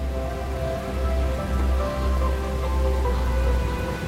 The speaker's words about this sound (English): At Huey, rain pours as a strong wind gusts.